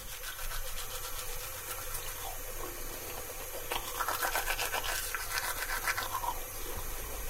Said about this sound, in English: When I get up in the morning, I brush my teeth. I take my toothbrush out of the toothbrush holder, wet the bristles with some cold water, apply the toothpaste, and then I brush my teeth.